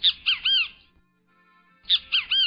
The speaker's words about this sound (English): The bird is the great Kiskadee.